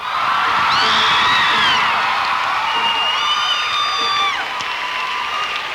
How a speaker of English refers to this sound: I guess you shouldn't clap yet because you haven't heard it. We'll see what happens when you hear it, but we're going to do some songs from it tonight.